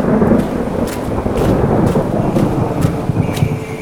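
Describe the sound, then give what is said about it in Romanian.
A thunderstorm with steady, dense rain and a deep, rolling thunder rumble underneath, with sharp drops or crackles popping out at intervals; loud and continuous, no voices. “Din poveștile de până acum am înțeles că pe parcursul acestor aproape două săptămâni au fost niște momente cheie, cum ar fi furtuna. Cât sunt ele redate pe materialul tău?”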